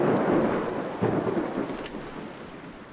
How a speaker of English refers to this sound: The rain flew into my face, coming down heavier now.